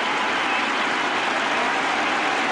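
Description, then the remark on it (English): A cricket crowd cheers and applauds Trescothick reaching his Test century for England against Sri Lanka as he sweeps Murali to deep mid-wicket, a dense, steady roar of clapping and shouting that holds at an even, fairly loud level throughout, with no voices speaking over it. “You can hear what the crowd think of it.”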